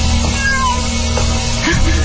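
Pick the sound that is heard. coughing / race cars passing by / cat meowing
cat meowing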